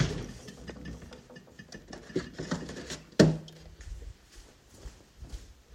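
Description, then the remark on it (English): A fridge door opens, with light clicks and rustling handling noises, a single sharp clunk partway through, then quieter rattling of items inside. “Fridge.”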